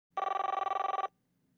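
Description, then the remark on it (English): A single loud burst of telephone ringing, a rapid trilling bell that rattles for about a second and then stops abruptly, clear, with no voices. “Think about the way a phone is answered.”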